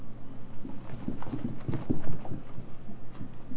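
Feet tap on the floor in a steady run of soft, low thuds, about three or four per second, over a faint background hum with no one speaking.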